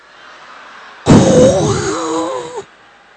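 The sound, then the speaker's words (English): A voice imitates loud snoring in one long, rough, rumbling burst lasting about a second and a half, harsh, with a wavering pitch before it cuts off into quiet. “Then comes his snoring.”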